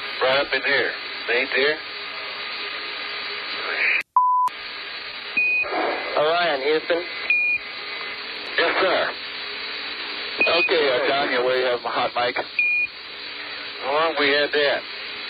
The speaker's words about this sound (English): So, I put in the censorship tones for public consumption, but...